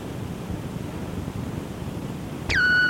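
Steady hiss fills the first few seconds, then a single answering machine beep cuts in sharply, a sustained mid-high electronic tone holding at constant pitch until the end.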